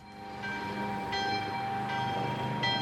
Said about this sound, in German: Diese Glocke des alten Schulhausturmes läutet auch heute noch in Humlikon.